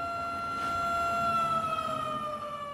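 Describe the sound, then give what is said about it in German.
The NINA emergency warning app of the Bundesamt für Bevölkerungsschutz (Federal Office of Civil Protection) sounds its alert tone on the nationwide warning day: a loud, sustained, siren-like electronic wail with a rich harmonic buzz, holding one pitch and sagging slightly lower toward the end. No voices are heard. “So klang heute zum Beispiel meine App Nina vom Bundesamt für Bevölkerungsschutz.”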